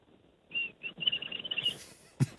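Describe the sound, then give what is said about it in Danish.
A thin, high-pitched human whistle drawn in on an inward breath, made by pulling out the lower lip and sucking air inward past the front teeth, wavering through a few airy notes for about a second, then trailing into breathy hiss and ending with a soft click. “Det er en sød fløjte. Mærkelig lyd.”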